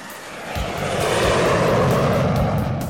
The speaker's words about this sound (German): Mit dem Flugzeug.